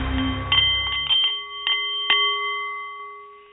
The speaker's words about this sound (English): The Nepalese Meditation Bowl is chiming, and that means it's time for The Art of the CEO, the show for people who enjoy the challenge of business and who want to do it a little better.